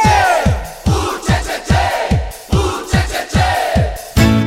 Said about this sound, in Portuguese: Pra ficar mais bonito, eu quero um grito da galera do agito. Arrepia, galera!